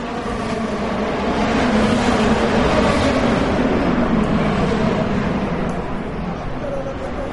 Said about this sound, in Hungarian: Az amerikai kormányzati és múzeumi negyed hatalmas épülettömbjei jócskán visszhangozták és visszaverték az egyenként akár 800 lóerős motorok hangját.